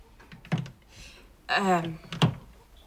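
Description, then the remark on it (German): A laptop power adapter plug is jabbed against a socket beside the door of a kitchen-living room, the socket fitted with a lockable safety guard, making two sharp plastic knocks about two seconds apart, with a short strained vocal grunt between them. “versucht …, das Netzteil ihres Laptops in eine Steckdose neben der Tür zu stecken”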